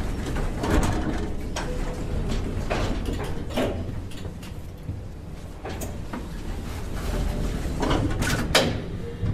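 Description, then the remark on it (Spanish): Elevator doors on a seventh floor slide open as soon as the button is pressed, over a steady low mechanical rumble, with a series of sharp clicks and clunks scattered throughout; moderately loud, with no voices. “Se abren las puertas de este tan pronto presiona el botón.”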